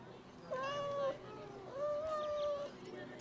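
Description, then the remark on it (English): Amber's cat meows twice, each call a long, drawn-out tonal cry with a brief pause between, heard clearly over a quiet background. “But before long, Amber's cat surprised the bird.”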